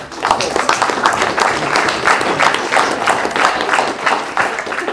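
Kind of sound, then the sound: crowd, round of applause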